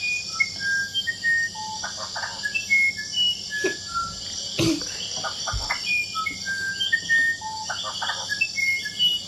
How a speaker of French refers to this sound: C'est un oiseau troglodyte.